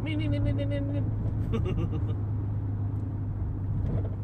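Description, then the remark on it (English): Squirrels chatter in a quick, buzzy burst at the start, then a few scattered calls follow, all over the steady low drone of a car interior. “Hear them squirrels going.”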